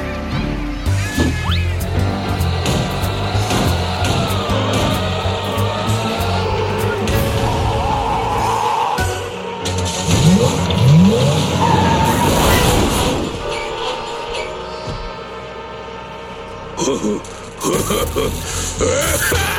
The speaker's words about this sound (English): Bumper cars!